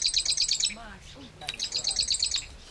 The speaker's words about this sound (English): It's a small bird, only about the size of a chickadee. Oh, hear that bird. I've never seen a marsh wren, but I can hear it. Chip, chip, chip, chip, chip, chip.